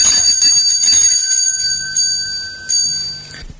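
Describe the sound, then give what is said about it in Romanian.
A doorbell at the front door rings with a bright, high, sustained metallic tone that holds steady for several seconds, renewing briefly twice before cutting off. No one speaks. “Sună cineva! Cine o fi la ora asta?”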